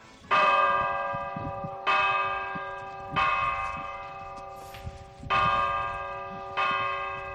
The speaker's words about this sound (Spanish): porque nos vamos a acercar un momento a la ermita, y nada mejor para acercarnos a la ermita que un toque de campanas.